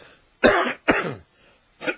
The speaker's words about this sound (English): Excuse me. I still have this funny voice, and I think I got a lot of allergies. That's why you're going to hear me cough. Of course, smoking don't help.